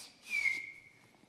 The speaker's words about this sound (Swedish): Men precis då hon ska tugga av Nutella-mackan så hörs det där visslandet igen.